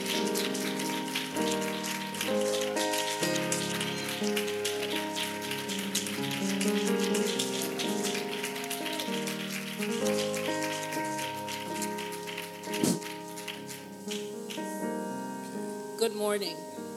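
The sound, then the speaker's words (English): An audience at Living Waters claps to welcome speakers, a steady, dense, continuous patter of many hands over sustained keyboard chords, holding an even loudness for the whole stretch with a brief sharper burst near the end. “Living Waters, would you receive them? Amen. With the clapping of your hands.”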